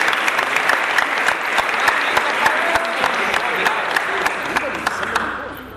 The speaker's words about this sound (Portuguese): Vamos gente, uma salva de palmas